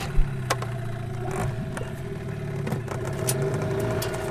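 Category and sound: vehicle, motorboat engine running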